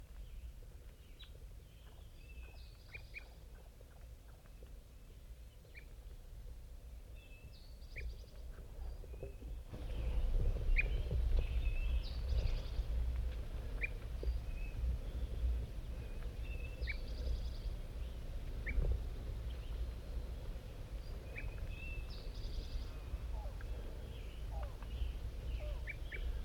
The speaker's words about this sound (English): Here come the wild birds. Flock of 5. 6 birds. Now they're all sitting here in the oak.